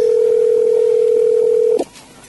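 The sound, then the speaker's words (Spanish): A telephone ringback tone on an unanswered call: one loud, steady electronic hum lasting nearly two seconds, then cutting off abruptly with a faint click and quiet line noise. “Me parece que no nos van a atender. Debe estar mirando, ¿no? El teléfono y dice, ¿quién me está llamando?”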